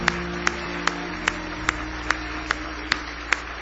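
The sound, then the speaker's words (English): Steady, evenly spaced hand claps land about twice per second, a church assembly clapping in unison on the beat in praise to God over a sustained low musical drone, with no talking. “Give Him another big hand clap of praise.”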